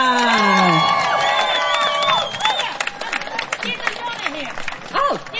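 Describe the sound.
A crowd at a speeches event applauds and cheers loudly, with high whoops and shouted voices sweeping over dense, continuous clapping that thins slightly toward the end.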